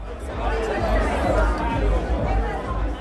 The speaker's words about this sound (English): In the lobby of the Bama, the crowd is growing, and soon it's showtime.